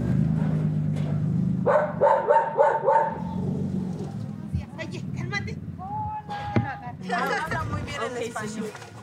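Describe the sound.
Several dogs at a house in Lomas de Poleo bark and yip excitedly in quick bursts as a welcome to arriving visitors, with a whimpering tone at times, while voices chatter in the background.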